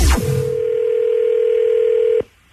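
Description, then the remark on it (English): A steady electronic telephone tone holds at one pitch for about two seconds after a brief click, then cuts off abruptly, loud with no voices. “Used to call me on my cell phone.”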